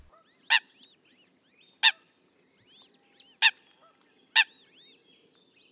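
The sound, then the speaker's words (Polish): A Eurasian coot's alarm call: five sharp, loud, explosive notes repeated at roughly one-second intervals, with fainter bird calls and chatter in the background between them. “Możemy na przykład usłyszeć charakterystyczny dźwięk alarmowy, taki.”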